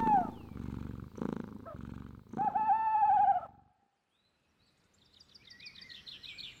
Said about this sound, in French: Et le ronronnement du gros chat couché à côté d'elle finit par l'endormir.